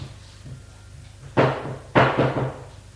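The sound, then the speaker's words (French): A maid gives two loud, heavy knocks on a double door on the first floor, spaced about half a second apart, each with a short booming resonance over a faint low hum. “Puis, au premier étage, va frapper à une porte à double battant.”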